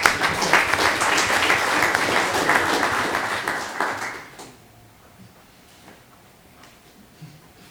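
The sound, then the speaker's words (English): A crowd applauds the coaches with dense, steady clapping for about four seconds, then it quickly dies away, leaving a few scattered claps and quiet background noise. “Round of applause again for our coaches.”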